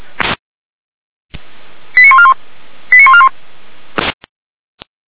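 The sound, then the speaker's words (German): A dispatch alarm tone alerting a Red Cross unit in Weimar, Germany: two short bursts of rapid stepped electronic beeps about a second apart, framed by brief crackling radio noise bursts and clicks, with no talking. “Het sirene alarmeert.”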